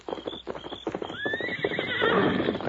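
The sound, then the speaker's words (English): A horse named Silver gives a loud, drawn-out whinny that climbs in pitch and then wavers, following a run of rhythmic hoof clip-clops; no one speaks. “Steady, Silver. Oh, Scott. In the saddle, Tonto.”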